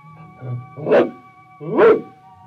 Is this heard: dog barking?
yes